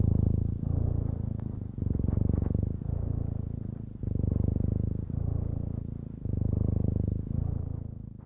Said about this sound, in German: Ist die Katze fertig mit Schnurren